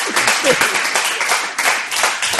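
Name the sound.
audience applause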